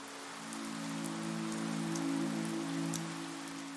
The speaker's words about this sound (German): Du hörst das leise Plätschern der Tropfen, wie sie auf das Kopfsteinpflaster fallen, und spürst, wie der Duft von nassem Stein und frischem Regen die Luft erfüllt.